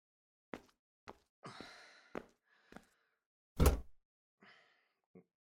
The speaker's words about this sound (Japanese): この椅子そろそろ買い替えた方が良くないですか？ギシギシ言ってますよ。